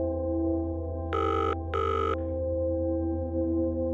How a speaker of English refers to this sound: Come on, come on, come on, she said as the ringing tone buzzed in her ear.